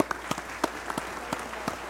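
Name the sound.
round of applause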